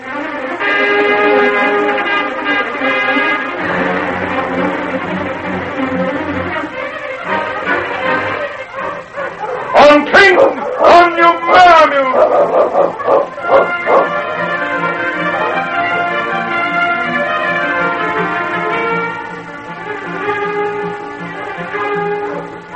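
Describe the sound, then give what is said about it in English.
A pack of sled dogs being harnessed barks, yips and howls together in an excited, overlapping chorus, with a burst of sharp, loud barking in the middle. No one speaks. “I'll see if she'll take some more of this broth while I harness the dogs.”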